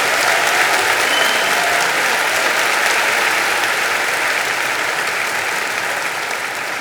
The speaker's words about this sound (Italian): Geben Sie ihm mal einen riesen Applaus.